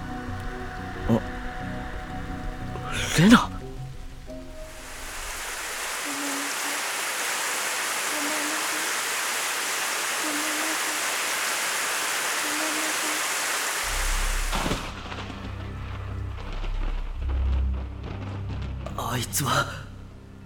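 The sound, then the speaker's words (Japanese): A sudden downpour sweeps in as a dense, steady hiss of heavy rain that holds for about ten seconds, loud, with brief speech before it and muffled voices and bumps after. “急にすごい雨が。”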